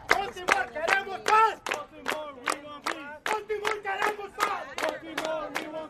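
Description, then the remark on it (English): A crowd of marchers on church steps in Baltimore claps in sharp, steady beats while voices chant together "Baltimore, queremos paz" (Baltimore, we want peace) in a rising and falling rhythm, the claps cutting through the loud group singing. “People clap and chant, Baltimore, queremos paz.”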